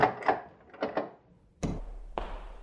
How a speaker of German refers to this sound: Natürlich. Moment, ich mache jetzt die Tür auf.